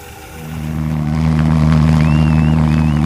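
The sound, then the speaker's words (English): A homemade pulse jet engine with no moving parts, shown at Anchorage's first Mini Maker Fair in Alaska, runs with a loud, steady, low buzzing roar that swells over the first second and then holds, a harsh rushing noise layered over it, with no talking. “A pulse engine is an engine with no moving parts, built entirely from the physical principle of thermodynamics, if I understand it correctly.”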